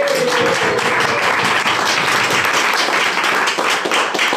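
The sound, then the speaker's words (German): A brief, loud burst of applause from a crowd as thanks for building a Slack bot, dense overlapping claps filling the whole clip with steady energy and no speech over it. “Dafür danke, dafür mal einen kurzen Applaus für diese.”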